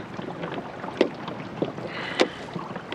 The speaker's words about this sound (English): Look, sit still. I'll row you round there.